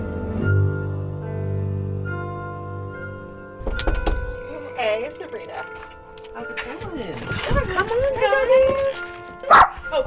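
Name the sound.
dog barking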